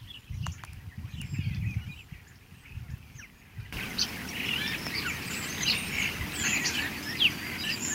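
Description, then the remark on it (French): Small birds, probably tits, chirp and call busily in a hedge full of alder buckthorn, apparently feeding on ripe blackberries in the brambles and buckthorn berries; high thin notes overlap in a steady chatter, with low rustling and handling noise beneath, the calls growing denser midway through. “Je me demande s'il y a d'autres oiseaux, sûrement des mésanges. C'est plein dans la haie.”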